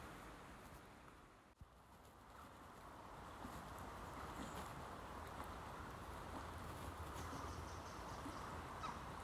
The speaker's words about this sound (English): But for the moment, I'm just going to stand here and enjoy the peace, as all I can hear is the leaves being rustled by the light winter breeze and the birds tweeting pleasantly in the branches above.